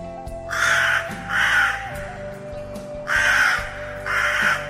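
A large crow caws four times in harsh, drawn-out calls while flying away as fast as it can, two close together, then a pause and two more, loud over a low steady hum.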